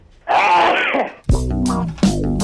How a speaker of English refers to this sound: I know that sneeze very well.